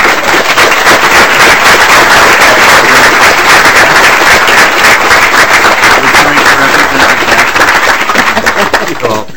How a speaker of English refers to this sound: And I just, if it's appropriate, I'd like just to recognize him for that. Could we applaud? Would that be appropriate? That would be very appropriate.